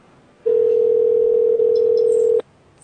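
One steady electronic phone ringing tone sounds for about two seconds, loud and even, then cuts off abruptly into near silence. No voices.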